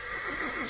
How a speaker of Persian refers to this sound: این صدای درشگی کیه؟ بیا از پنجره ببینیم. خدای من، لورد پلایم دیل.